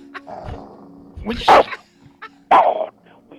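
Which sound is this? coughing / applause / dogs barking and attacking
dogs barking and attacking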